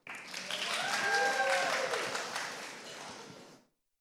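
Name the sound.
audience clapping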